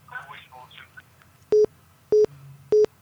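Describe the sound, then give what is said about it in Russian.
A voice talks briefly, then three loud, evenly spaced telephone line beeps of an incoming phone call sound, each short and steady, with a faint low hum underneath. “У нас есть телефонный звонок.”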